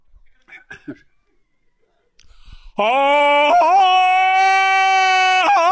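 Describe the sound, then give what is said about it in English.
After a few soft breaths and clicks, a man's voice launches into a loud imitation of the Tarzan yodel yell of Johnny Weissmuller: one long sustained, ringing cry with sharp pitch breaks warbling through it. “And you're doing the yodel all the time.”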